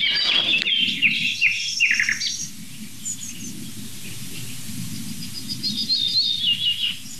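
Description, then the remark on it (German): A yellowhammer sings faintly in the background: quick series of high, thin repeated notes, fairly clear at first, then fainter phrases over a steady low rumble. “Man hört sogar ganz zart im Hintergrund noch eine Goldammer.”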